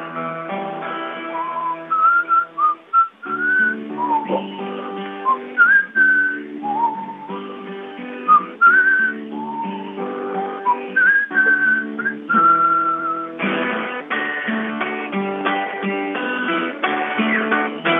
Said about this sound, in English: How I whistle, oh, how I whistle, how I whistle loud for the neighbors hear my whistle, oh, how I whistle, how I whistle loud so the neighbors hear me.